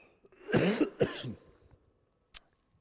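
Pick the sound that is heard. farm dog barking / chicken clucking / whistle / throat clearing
throat clearing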